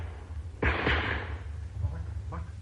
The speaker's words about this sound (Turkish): Bak, dışarıda bir tabanca patladı. Acaba bizimkini mi vurdular?